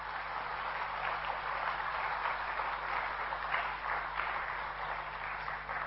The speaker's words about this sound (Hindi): अपने लिए जोरदार तालियां।